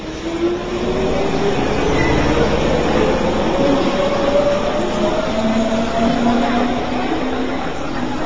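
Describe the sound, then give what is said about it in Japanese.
A morning commuter train, crowded with people heading to school and work, rumbles steadily along the rails, a dense, continuous roar with faint rising whine tones running through it, loud for the whole stretch with no voices. “すっきりした朝の太陽を浴びた電車の学校へ会社へと向かう人たちで混み合う。”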